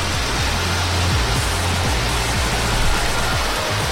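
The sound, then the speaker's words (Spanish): Torrential rain, recorded in a phone video sent in via WhatsApp, pours down in a loud, unbroken roar of dense hiss, with low rumbling pulses underneath and no voices. “Este es sonido de un vídeo enviado al WhatsApp del Trivian Company. Da lo que está lloviendo.”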